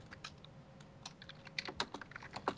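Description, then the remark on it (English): Rapid, uneven clacking of computer keyboards as several people type furiously, keys struck in quick bursts, moderately quiet, with a faint steady hum underneath and no voices. “Everyone's typing furiously, by the way.”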